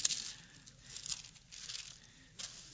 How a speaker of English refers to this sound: I don't hear very many pages turning. Now I hear more pages turning. You know that I love the sound of those pages, you guys.